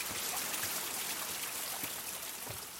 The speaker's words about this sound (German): Wasserfälle stürzen sich rauschend in die Tiefe.